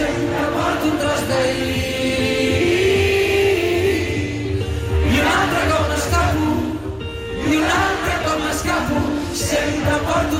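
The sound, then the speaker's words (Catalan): Loud live concert sound filmed from the front row at a summer festival, with amplified music and a crowd singing and shouting along, dense and continuous, with a brief dip in energy before it swells again. “Aquest és el so dels tres vídeos que ella ha penjat de seguint aquests concerts des de la fila zero, aquella que es diu que és davant de tot”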